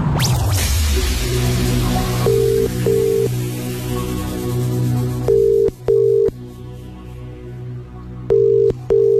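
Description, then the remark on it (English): A phone call's ringing tone sounds in three double bursts, steady and fairly loud, evenly spaced over a faint low hum after a brief rustling noise at the start, as the call goes unanswered and is forwarded to voicemail. “We've been forwarded to voicemail.”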